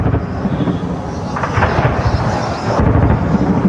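Gunfire during street fighting between Houthi fighters and government forces in Sana'a, Yemen: loud, continuous rumbling booms with a few sharper bursts breaking through, no voices, filling the whole few seconds.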